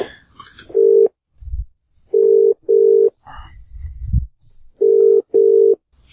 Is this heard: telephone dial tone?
yes